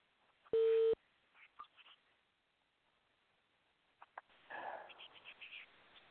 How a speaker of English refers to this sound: Let me pull his phone number up and I'll give him a call right now.